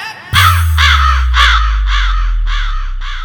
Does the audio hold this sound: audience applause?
no